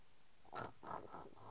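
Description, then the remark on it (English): A baby makes a quick run of soft, nasal snorting grunts, about four short bursts in a row, fairly quiet, with no talking. “What was that little snorty sound? Are you being a little piglet?”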